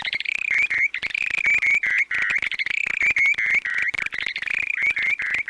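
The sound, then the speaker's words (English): A bird sings a long, unbroken stream of rapid, high, tinkling warbles during its display flight, loud and steady throughout with quick repeated trills and no voices. “At the end of the glide, the birds suddenly fall through the air and then sometimes rise again for another round of musical airborne acrobatics.”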